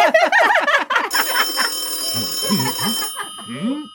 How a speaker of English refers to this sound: It's been ages since I heard my phone ring.